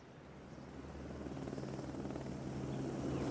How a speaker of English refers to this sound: I do believe she's coming! There's the helicopter! She's coming! Look, she is!